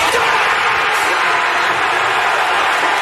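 A basketball crowd in Ann Arbor erupts in a loud, sustained roar of cheering and clapping as Michigan scores a last-second winning basket against Rutgers, a dense wall of noise that holds steady for about three seconds with no clear voices standing out.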